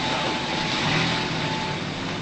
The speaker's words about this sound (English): They drive away.